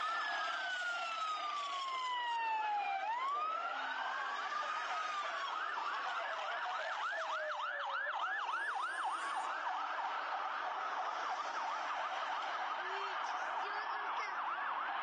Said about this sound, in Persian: در ویدیوهایی هم که از محل این انفجار منتشر شده صدای پشت سر هم آمبولانس ها شنیده و آتش سوزی در یک ساختمان دیده می شود.